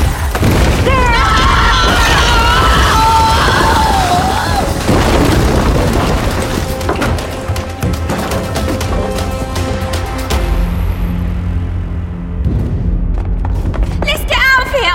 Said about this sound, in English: Didn't expect there to be this many explosions!